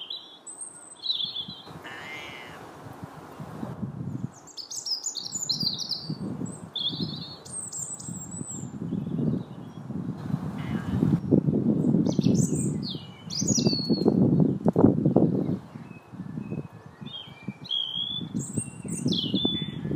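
Bright, high chirps and warbling bird song trill in quick bursts throughout, several birds calling over a steady low rumble, with occasional squawks and a brief flutter of wings.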